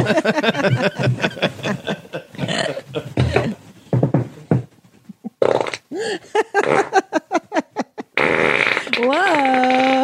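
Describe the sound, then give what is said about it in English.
Loud fart noises burst out repeatedly, some drawn out and buzzy, mixed in with voices and a bit of snickering, as someone farts on Swiss cakes. “You farted.”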